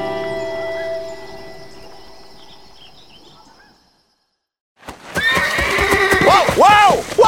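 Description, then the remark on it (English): A horse being broken in a corral by a rider whinnies loudly, a shrill, wavering neigh lasting a couple of seconds. Before it, a steady tonal hum fades away into a brief silence. “Smoke Jensen and Pearly were leaning on a corral fence, watching a cow try to break one of the horses Smoke had bought for the Sugarloaf removal.”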